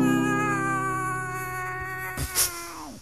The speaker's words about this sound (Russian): А кошка мрачному, предавшись пессимизму, трагичным голосом взволнованно орёт.